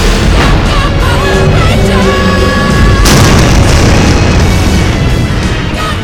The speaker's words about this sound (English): The explosion barely fades as the two headstrong commanders turn their attention to the opposing Ranger teams.